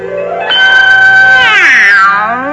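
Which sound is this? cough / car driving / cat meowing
cat meowing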